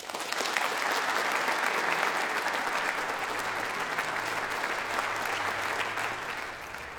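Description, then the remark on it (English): Sustained audience applause after Ian McMillan reads his poem Those Seconds at a Proms Plus literary event at the Royal College of Music, a dense steady patter of many hands clapping at an even loudness for several seconds, tapering slightly at the end with no voices over it. “Ian McMillan reading his poem, Those Seconds, summoning applause at the end of this evening's Proms Plus literary event, recorded earlier down the road at the Royal College of Music.”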